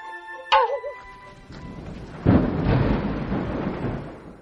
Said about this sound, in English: As soon as you mentioned rain...It started pouring.